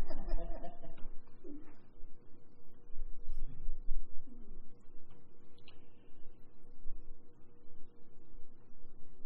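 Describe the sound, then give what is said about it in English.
A pigeon or dove coos softly a few times, low hooting calls spaced across the first seconds, set against a steady background hum with no clear speech. “And now the bird got us.”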